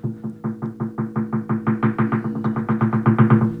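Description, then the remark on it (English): Radiant heating pipes knock in a rapid, steady series of about twenty sharp taps, growing louder toward the end, over a constant low hum. No one speaks. “it had radiant heat in the pipes, which is awesome because you don't pay for the heat, but sucks ass because it ticks and it's loud as shit. I mean, when I say it ticks, that doesn't, it's like banging. It's like someone just tapping, you know.”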